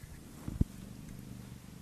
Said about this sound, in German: hier schnurrt eine Katze. Hier liegt auf meinen Füßen. Ja, okay. Unter der Decke. Der ist ganz schön laut. Ja. Ja, das stimmt. Der ist echt ganz schön laut.